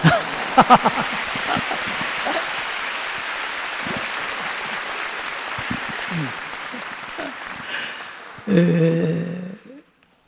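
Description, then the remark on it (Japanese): A crowd breaks into sustained applause, a dense steady patter of many hands clapping for about eight seconds, then a brief voice cuts in before the clapping fades out. “拍手してください”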